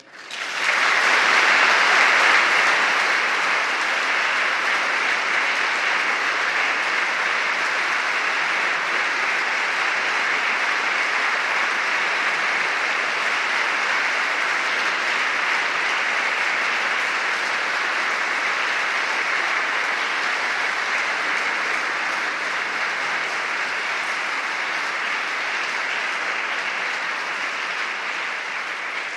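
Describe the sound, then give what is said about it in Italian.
A large crowd applauds steadily for about half a minute in gratitude to Cardinal Camillo Ruini at the end of his long service as Vicar General for the Diocese of Rome, a dense, sustained wash of clapping that starts abruptly and holds at an even, loud level throughout. “Gli applausi dimostrano la gratitudine di tutti.”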